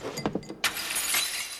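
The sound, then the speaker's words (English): A glass of water is knocked over in a backstage dressing room with a couple of light knocks, then hits the floor and shatters into a bright spray of tinkling shards that rings on for about a second. “She knocks the glass to the floor and is alarmed to find her hand shaking.”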